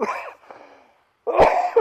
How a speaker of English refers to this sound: Excuse me. I was hoping I was going to get through this without coughing.